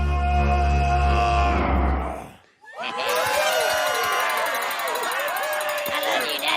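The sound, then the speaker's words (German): The ogre's roar from the film Shrek, a deep, rough roar made from a human voice mixed with added sound effects, holds loud for about two seconds, then cuts off, and a crowd bursts into shrill screams and cheering. “Das ist der berüchtigte Schrei des Ogers in der Verfilmung von Shrek.”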